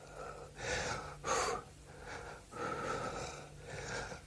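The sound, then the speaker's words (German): Detlef, a slightly overweight pet with a big belly, pants heavily while enjoying a treat, with rapid, raspy breaths repeating about every half second to second in a steady rhythm, fairly quiet and with no voices. “Der ist schon wieder am Japsen.”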